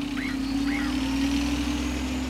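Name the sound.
street traffic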